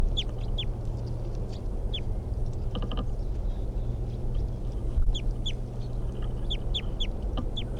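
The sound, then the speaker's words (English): A wild bird in a tree calls again and again with short, high, downward chirps, spaced fairly evenly, over a steady low rumbling hum, with a brief rattling burst midway. “That wild bird, I think, is still in the tree, but it's very quiet”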